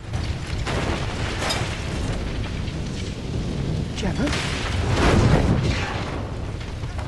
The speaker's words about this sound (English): The bus explodes, bits of it flying everywhere.